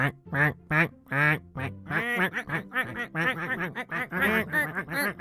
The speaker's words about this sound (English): Soon a whole flock of ducks had gathered in the tree around them.